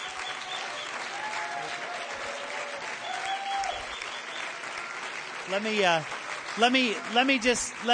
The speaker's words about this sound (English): And give Jesus a good hand clap.